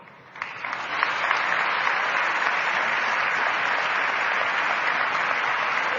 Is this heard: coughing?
no